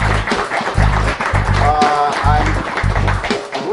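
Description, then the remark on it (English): An audience applauds steadily for several seconds, a dense, continuous patter of clapping over a thumping low beat, with a brief voice or cheer rising through the noise midway, as two special guests, Microsoft MVPs, are welcomed in. “Why don't you both come on in here and give it up for them?”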